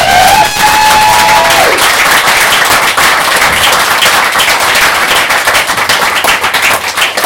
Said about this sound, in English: But I just want to say, I'm going to ask you to give a round of applause, but my own personal thanks to everybody who competed and performed on the open mic tonight. An absolutely amazing night. Thank you so much. And give yourselves an applause.